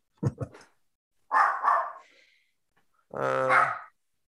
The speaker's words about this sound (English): The dog just got up and started barking. Uh-oh.